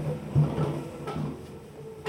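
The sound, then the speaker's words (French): An automatic toilet door slides shut over a low mechanical hum, with a couple of dull clunks as it closes and the lock engages, moderately quiet. “Porte fermée et verrouillée.”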